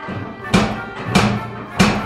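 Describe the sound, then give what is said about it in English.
Three firm knocks on the front door of a house in the snow, evenly paced about half a second apart, each a solid thud with a sharp wooden crack, over a quiet background. “Well, it took no time at all to march through the snow and up to a rather intimidating front door on a rather intimidating house.”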